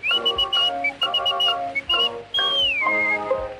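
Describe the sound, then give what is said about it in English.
A whistling boy whistles a lively tune in bright, piercing phrases with a few sliding notes on a recording made in 1905. Steady instrumental accompaniment plays underneath, and the sound has a thin, old-fashioned recording quality. “Always whistling to while the time away, from the early morning to the close of day.”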